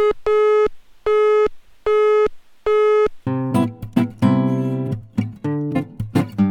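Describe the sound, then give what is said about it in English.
A telephone busy signal on the Radia.fm phone line beeps four times in steady, evenly spaced loud pulses, then gives way to brighter, busier music. “All lines are busy at the moment, please be patient.”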